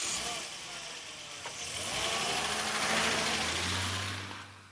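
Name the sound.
car engine running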